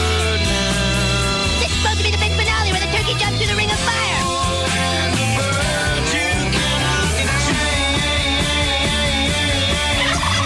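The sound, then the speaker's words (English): A turkey gobbles in rapid, warbling bursts, the rattling calls repeating loudly over a dense, steady wash of other sound that fills the whole stretch. “What the hell is that? It's a turkey. Gobble, gobble.”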